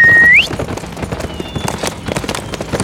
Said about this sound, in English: Frank put his rifle into the saddle boot, then holding Claiborne's weapon, swung up onto the gelding's back and sent it loping after the horses carrying his two companions.